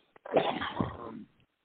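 A harsh, raspy cough bursts out once and drags on for about a second, with no talking around it.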